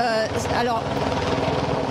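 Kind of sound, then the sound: vehicle, helicopter circling overhead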